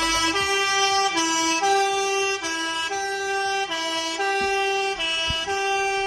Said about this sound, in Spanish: Pues este que estamos escuchando es el sonido de la caravana de camiones que está recorriendo la ciudad para protestar una semana después del comienzo de un paro en el sector por ese alto precio de la gasolina